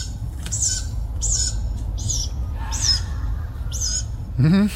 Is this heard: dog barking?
no